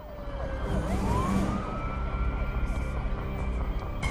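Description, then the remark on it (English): Two police cars speed past the end of an alley, sirens wailing, their pitch sweeping and bending as they go by over a steady rumble of traffic, loud before fading slightly at the end. “A pair of police cars speed by the end of the alley in which Taryn has parked his white van”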